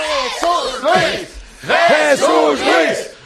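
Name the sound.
applause and cheering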